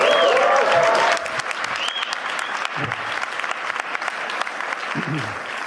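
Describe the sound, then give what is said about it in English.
A crowd claps steadily, a dense patter of many hands that holds at a moderate level throughout, with a few scattered voices calling out over it. “That was not a large applause.”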